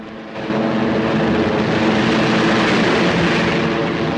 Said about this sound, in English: Then their planes start to rumble across the grass. Picking up speed, the two planes take off into the air.